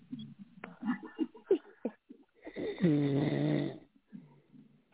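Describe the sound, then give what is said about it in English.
A person imitates snoring with a few short, choppy vocal snorts followed by one long, buzzing, rattling snore, with no talking. “And I roll over mm-hmm. and then go to sleep. Start snoring.”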